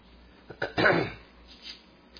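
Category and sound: human body sound, coughing and throat clearing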